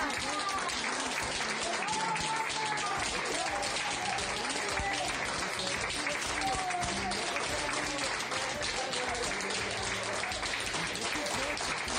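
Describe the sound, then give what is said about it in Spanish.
A crowd claps steadily for the whole stretch, applauding a 95-year-old patient discharged from the Puerta de Hierro hospital. It is a dense, continuous wash of applause that never lets up, with voices calling out and mingling underneath. “Pues a esa chica a la que están aplaudiendo, que ustedes están escuchando los aplausos, es una paciente de 95 años a quien han dado el alta.”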